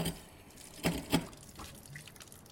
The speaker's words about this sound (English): I went into the bathroom and turned on the faucet.